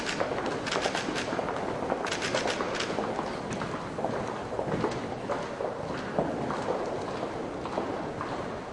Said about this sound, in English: I know it's just noise, but it's really weird. I mean, they're big, tall, broad halls, and they're echoey as hell. They're just walking. They're not running. They're not singing or anything.